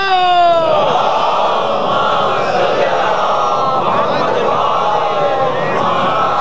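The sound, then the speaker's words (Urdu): An audience chants salawat, blessings on Muhammad and his family, together in unison, a dense, loud, sustained wave of massed voices rising and falling steadily for several seconds with no single speaker standing out. “صلوات بھیجیے محمد علی محمد پر.”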